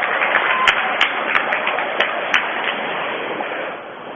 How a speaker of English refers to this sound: And some clapping as Duarte goes to the bench.